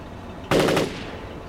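A sudden, loud burst of rapid gunfire, a few shots fired in quick succession, then fading into a lingering rumble. No one speaks.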